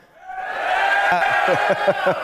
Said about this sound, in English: Give us another cheer, Armagh.